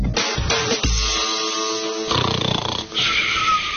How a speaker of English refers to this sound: Yes, definitely. That was a snoring sound